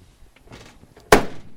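A car door slams shut once, loud, with a short ringing decay, preceded by faint shuffling and handling noises. No one speaks.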